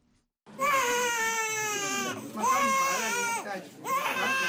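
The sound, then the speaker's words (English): A newborn baby girl wails loudly and continuously in sustained, high-pitched cries, pausing briefly for breath between long strained bursts, with no other voices, at Mausekwa Hospital in Marondera District, Zimbabwe, less than 100 kilometers southeast of Harare. “That is a newborn girl crying, born to 19-year-old”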